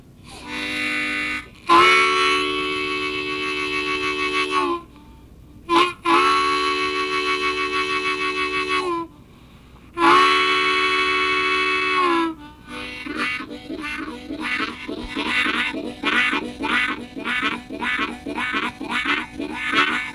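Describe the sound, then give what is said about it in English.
A steam locomotive whistle sounds the signal long, short, long, long at a whistle board ahead of a little town: sustained, chord-like hoots with one quick blast between them, followed by the engine's steady rhythmic chuffing. “He gets going on across the country and he sees a whistle board up there ahead, and it has a one long dash, a short, and two long dashes.”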